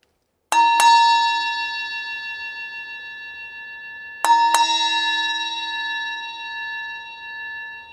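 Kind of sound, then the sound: sound effect, bell ringing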